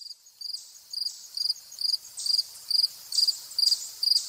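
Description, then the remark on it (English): Fall field crickets chirp in August at a nature center in Killingworth, Connecticut, in a steady, evenly spaced rhythm, about two short pulsed chirps per second, clear against a quiet background with no voices. “Fall field crickets in August. They are joined by a chipmunk and a blue jay at the Platt Nature Center in Killingworth, Connecticut.”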